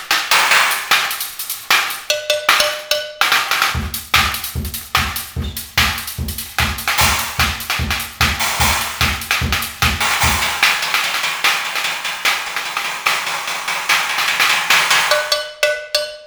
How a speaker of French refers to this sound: Et ça, c'est quoi? Une cloche de vache.